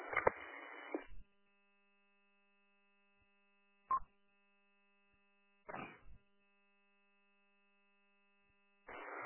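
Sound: electric fan running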